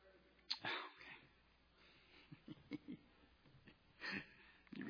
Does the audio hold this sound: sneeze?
yes